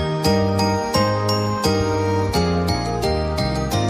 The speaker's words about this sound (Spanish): Campanas.